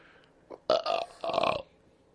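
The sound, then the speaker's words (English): A loud belch in two drawn-out croaking bursts with a short gap between them, preceded by a brief throaty hitch, and no talking. “I got a belch and it won't.”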